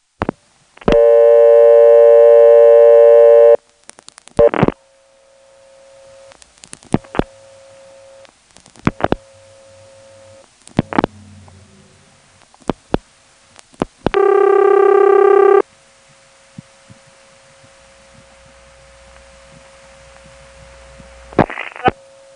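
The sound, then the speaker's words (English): A local call ringing through a Carolina Telephone callback circuit: two loud, buzzy tone bursts separated by a steady low line tone, with scattered switching clicks and pops. No one speaks. “Now this is still Carolina Telephone, so it's a safe bet that if we start a local call ringing through that callback circuit and the party answers, it's not gonna let me talk to them.”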